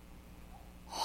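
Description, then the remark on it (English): A baby's small sneeze bursts out near the end after a quiet stretch, a short breathy snort-like puff that comes up suddenly. “Oh, bless you.”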